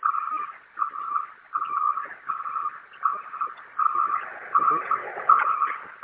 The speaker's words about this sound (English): Okay, and what happens when you try to raise the bus up? Let me see if I can put the ramp out without kneeling the bus. Yeah, the ramp is going out.